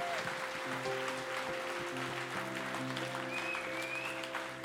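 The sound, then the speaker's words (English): An audience claps steadily throughout, applauding those who just made the decision to come back home, a dense wash of many hands at even loudness, with sustained keyboard chords humming underneath and a brief whistle rising near the end. “So can we just put our hands together and applaud?”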